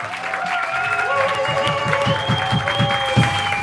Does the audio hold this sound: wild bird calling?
no